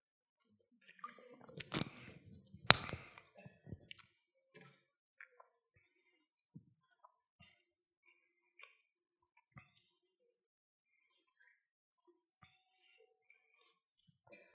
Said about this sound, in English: Gotta get another sip of this water. Hang on.